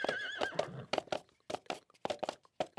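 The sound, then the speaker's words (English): A horse whinnies with a high, wavering cry, then hooves pound in a quick, steady galloping rhythm, fairly loud, with no voices, as a rider takes off on the horse from a castle and rides into a forest. “Chantel ran from the castle, took off on her horse, and ran into the forest.”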